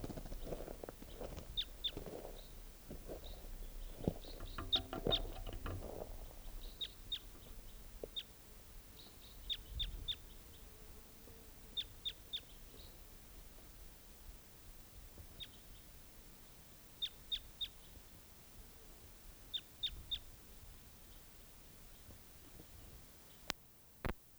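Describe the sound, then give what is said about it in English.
A bird calls with short, high-pitched chirps, often in quick pairs or clusters, repeating at irregular intervals; fairly faint, over a low rumbling background that is busier at the start. “Where's that same bird?”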